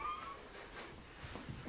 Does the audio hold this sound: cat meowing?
yes